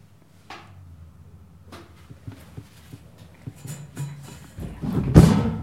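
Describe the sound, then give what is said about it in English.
A chair being shifted, with a series of light knocks and creaks building to a louder scraping thud at the end; no one speaks. “Okay, thanks for moving your chair.”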